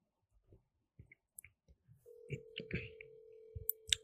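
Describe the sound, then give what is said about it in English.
A scattering of soft clicks and taps gives way to a steady, mid-pitched telephone ringing tone that holds for about two seconds, with more clicks and knocks over it and no voices. The ringing is an outgoing phone call to a woman that goes unanswered. “I want y'all to hear how she does me, because she's not gonna answer the phone for me.”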